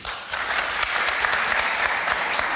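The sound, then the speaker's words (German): An audience of about 1,000 people claps in a dense, steady burst of applause, many overlapping claps blending into a loud, continuous patter with no voices standing out; those who say the word is "Köpfer" clap their hands as a show of hands. “Alle, die sagen, es heißt Köpfer, klatschen jetzt einmal in die Hände.”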